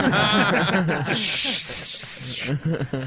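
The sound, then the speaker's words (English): A voice imitates a sheep urinating, producing a loud, steady, high-pitched hiss lasting over a second, bracketed by chuckling vocal sounds before and after. “You ever hear a sheep piss?”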